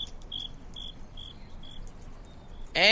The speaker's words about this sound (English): Oh, there's just a cricket. So, not a crowd, but quality over quantity. Am I right? Because this cricket is my number one fan.